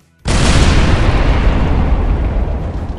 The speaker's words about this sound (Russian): одна группа выглянула за угол, просматривая свой маршрут, как земля задрожала, и раздался взрыв.